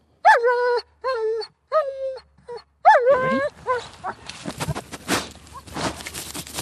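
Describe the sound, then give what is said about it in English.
A 2-year-old German Shepherd sniffer dog, led by a trainer on alpine slopes in Australia to find invasive orange hawkweed, lets out several high, whining yelps in a row, then breaks into rapid, noisy snuffling and sniffing, with rustling as it works along the ground. “A 2-year-old German Shepherd called Fonzie is sniffing the ground.”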